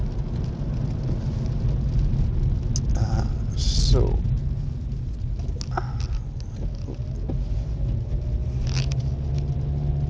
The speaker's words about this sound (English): I've actually got in-bud earphones and I was wondering what the strange noise was. It's a pitter-patter noise, and I realised it's the rain on the window. So apologies for that. Surprising it picks that up. It's not even that heavy rain.